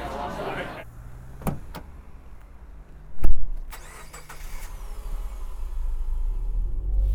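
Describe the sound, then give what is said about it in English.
A few sharp clicks and thumps come first, then a car engine cranks and catches with a loud burst, settling into a steady low rumble that grows slightly louder as it runs. “I'll come get you now in the car and then we can do the car scene.”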